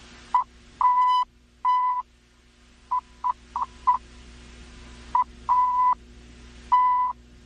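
A steady, mid-pitched Morse code tone taps out a crisp pattern of short dots and longer dashes, with brief pauses between groups, playing the first message ever sent in Morse code. It's clear and alone, with no voices and only a faint background hum.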